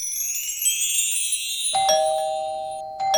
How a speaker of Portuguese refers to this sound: Ah, quem será, hein? Quem será que tá tocando a minha campainha? Vou ver.